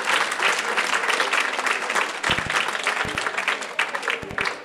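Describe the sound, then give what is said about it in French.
Sustained audience applause for two guests, a dense wash of many hands clapping steadily at an even, fairly loud level throughout, with a few sharper individual claps standing out near the end. “Oui, vous pouvez les applaudir, en effet.”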